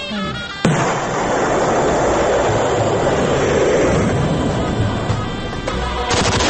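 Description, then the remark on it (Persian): Heavy gunfire and artillery, presented satirically as the 'unhealthy pastimes' of Syrian president Bashar al-Assad, break in abruptly with a loud crack, then churn on as a dense, continuous rumbling barrage for several seconds, with no voices. “به جای بازی کردن با توپ و تفنگ و جون مردم”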